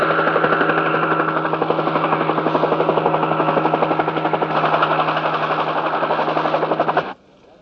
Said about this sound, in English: Attention, all personnel. Attention. Ambulances in the lower compound. Choppers on the upper pad. Incoming wounded. Repeat, incoming wounded.